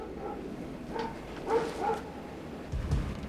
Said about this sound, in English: Fucking ass dogs.